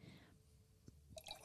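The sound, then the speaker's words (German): Rosé wine from Schmitz Kinder is poured briefly into glasses in the Main valley in Franconia, Germany: a faint liquid trickle with a couple of small drips and gurgles that grows a little louder at the end, with no voices. “Und genau, ich habe einen wunderschönen Rosé von Schmitz Kinder, den schenken wir jetzt kurz mal ein.”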